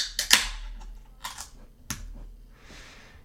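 A can of a drink made with lactose sugar and meant to evoke Boston Cream is cracked open: a few sharp metallic clicks and a crisp pop, then a soft, airy fizz of escaping carbonation trailing off. No one speaks.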